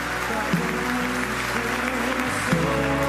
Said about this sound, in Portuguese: Vamos aplaudir o nome dele com vontade.